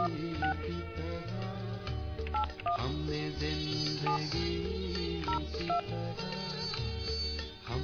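A phone number being dialed on Shabnam Radio, the host calling someone to see if they will take the call, with a steady series of short electronic tones tapped out one after another over a loud, dense music bed.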